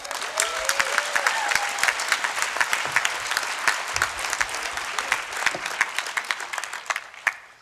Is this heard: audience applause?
yes